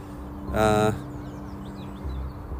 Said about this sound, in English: Also, more seagulls just landed.